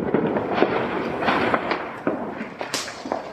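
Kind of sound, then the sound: sound effect, fireworks exploding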